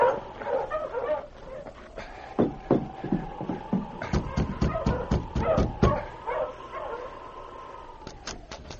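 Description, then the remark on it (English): A team of sled dogs, halted in front of a cabin, bark in quick, sharp bursts that grow into a dense volley, with a steady whining howl running underneath and a few final yips at the end. “Later that same afternoon, a bearded man traveling by dog sled halted his team in front of the cabin shared by Ed Grant and Hal Bishop.”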